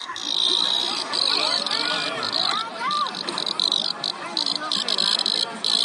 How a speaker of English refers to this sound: Yeah, this is a bug that is about to emerge from the ground not too long from now. And this is a single cicada, so take a listen again.